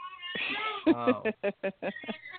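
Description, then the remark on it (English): A baby cries, starting with a long drawn-out wail and breaking into a string of short, high-pitched sobs in quick rhythm, fairly loud with no talking over it. “I hear a baby. You do hear a baby.”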